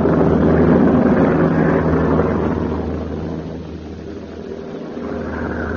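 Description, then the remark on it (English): A heavy, continuous drone of a Flying Fortress bomber's engines roars loudly with rushing wind noise mixed in, as the plane flies lost over the Gulf of Mexico during a severe hurricane, easing slightly partway through before swelling again, with no voices. “saved the lives of the crew in Flying Fortress aboard which he was radio operator.”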